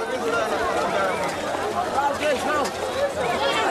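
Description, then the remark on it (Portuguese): A dense crowd of passengers rushes to board a train in Moatize at 6 in the morning, people running with children on their backs and cargo in hand. Many overlapping voices shout and chatter at once, with hurried footsteps and commotion filling the scene steadily and loudly throughout. “Instala-se o alvoroço, gente corre, filho às costas, carga na mão, molhos de galinhas na outra, farnel na cabeça.”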